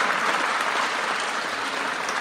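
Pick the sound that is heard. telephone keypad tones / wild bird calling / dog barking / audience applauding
audience applauding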